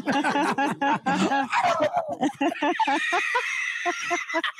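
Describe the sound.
A person imitates a turkey gobble with a rapid, warbling run of throaty voiced bursts, loud, ending in a higher trilling stretch and a few scattered short calls.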